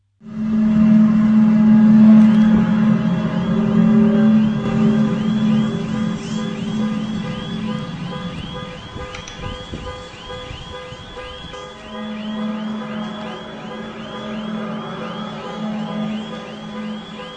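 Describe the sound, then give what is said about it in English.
A deep, droning horn-like blare from the sky sounds for a long stretch in Germany in January 2012, with a rapid, warbling car alarm tone, set off by the horn sound, cycling above it. The loud horn fades midway and returns while the alarm keeps repeating. “a horn-like sound set off car alarms and was recorded and uploaded to YouTube on January 20th, 2012”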